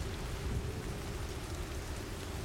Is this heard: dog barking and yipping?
no